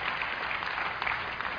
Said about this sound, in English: Go ahead, clap.